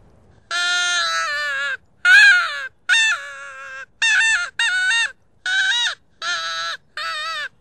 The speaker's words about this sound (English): sound of a rabbit crying in distress